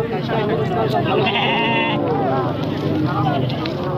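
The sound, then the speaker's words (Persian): Sheep and goats, brought by herders for sale, bleat repeatedly at Ganj Bazaar livestock market on the outskirts of Frizko city, their wavering cries overlapping amid constant crowd noise, with people talking throughout. “ده ها مالدار چارپایانشان مانند بز، گوسفند و گاو را عمدتاً به علت خوشسالی برای فروش به گنج بازار در حومه شهر فریزکو آوردند.”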